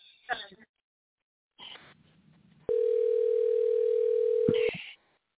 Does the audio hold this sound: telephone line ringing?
yes